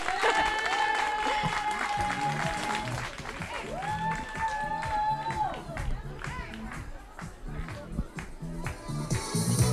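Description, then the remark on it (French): A crowd applauds steadily for about ten seconds as a dance group, the Coquichons, is introduced; dense clapping mixed with cheers and a few sustained shrill whistles rising above it. “Donc applaudissez bien fort les coquichons.”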